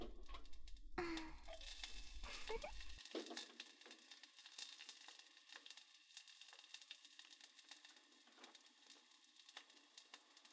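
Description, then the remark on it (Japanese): Onions are added to hot oil in a cooking pot and sizzle with a steady, dense crackle, loudest at first as they hit the oil and then settling into a softer continuous hiss with occasional pops. “玉ねぎを入れまーす。”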